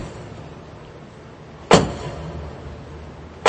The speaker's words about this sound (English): A symbolic knock on the door by the Archbishop of Paris, the cathedral awakens and resounds with a hymn of praise